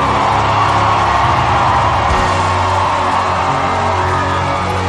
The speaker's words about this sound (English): If you got the message, can you celebrate the Lord with a shout? You're shouting like you don't want to fear God.